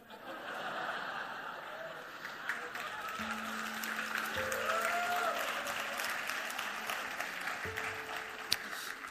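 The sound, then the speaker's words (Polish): An audience claps steadily in a dense, sustained burst of applause with scattered chuckles, at a fairly even level throughout, a low electronic hum running beneath. “Dobrze, że bijecie, brawo.”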